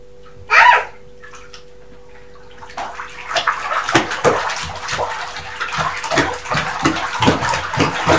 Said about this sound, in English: Right, let's rinse all them bubbles off.